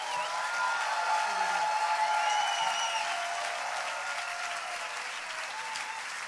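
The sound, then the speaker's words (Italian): Sustained applause from an audience for Ascanio Celestini, a dense, steady clatter of clapping that holds at an even level for several seconds, with faint voices and a few whistles mixed into the noise. “Allora ancora un applauso per Ascanio Celestini, con cui ci scusiamo, personalmente io mi scuso per aver fatto che sia partita l'arena prima”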